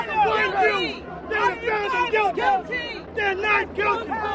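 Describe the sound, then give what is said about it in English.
A loud, angry crowd of hundreds of spectators outside the Queens courthouse in New York City yells, cries and screams over one another, continuous, with raised, strained cries rising and falling in surges throughout. “pushed through the crowd as people cried and screamed out around him.”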